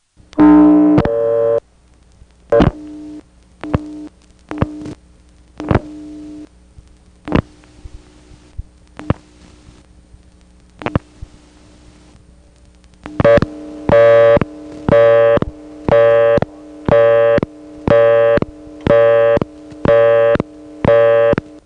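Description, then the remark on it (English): A telephone busy signal heard on a payphone after dialing its own number: after a stretch of scattered clicks and a faint hum, a loud, steady tone pulses on and off in an even, rapid cadence. “You just dial your own number, hang up on the busy, and then answer it, and you'll hear the ticking tone yourself.”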